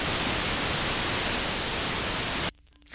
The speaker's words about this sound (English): What was that then? That hurt. That just hurts my ears. It's just white noise, like a TV that's broken.